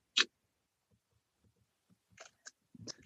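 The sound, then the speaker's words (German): A sharp camera shutter click as a photo of the whole group is taken, followed by quiet low thumps and a few softer clicks and rustles. “machst du noch mal ein Foto von uns allen?”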